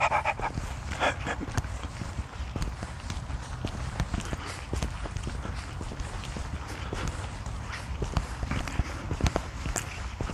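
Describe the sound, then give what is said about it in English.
A couple of big black dogs trot past, panting with tongues hanging out, their paws pattering in a quick, steady rhythm over a constant outdoor rumble, with no talking. “A couple of happy dogs. Big black dogs. Tongues hanging out.”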